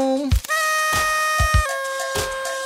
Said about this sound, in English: I love that sad ass air horn.